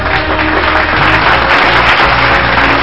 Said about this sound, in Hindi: जोरदार तालियों के साथ इनका स्वागत करते हैं।